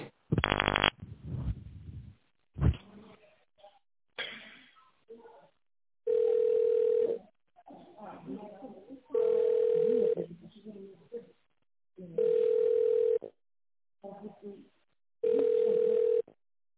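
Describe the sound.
A telephone ringback tone while waiting: four steady, mid-pitched beeps, each about a second long, repeating at even intervals, with a voice speaking in the gaps between them.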